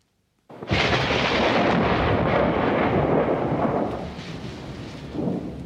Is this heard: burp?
no